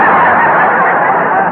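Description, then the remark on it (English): A loud, harsh goose-like honk rings out, one sustained blaring call lasting about a second and a half, with no talking around it. “That's the only bird I've ever seen with a mustache.”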